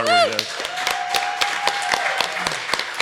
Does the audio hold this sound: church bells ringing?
no